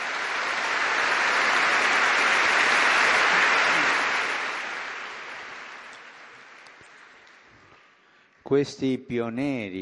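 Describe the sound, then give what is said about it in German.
An audience breaks into sustained applause honouring people of the Church who gave their lives to educating children and young people; it swells to a peak, then gradually fades over several seconds before a man's voice resumes speaking. “Ich lade euch alle ein, ehren wir sie mit einem schönen Applaus.”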